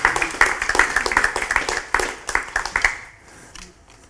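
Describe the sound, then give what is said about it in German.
A crowd applauds with dense, crisp claps for about three seconds, loud and busy, then the clapping thins out and fades away into quiet. “Ja, Applaus.”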